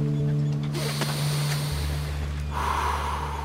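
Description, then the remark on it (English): A long, deep breath drawn in and slowly let out, a steady airy rush over a low droning hum, with no talking. “He took a deep breath.”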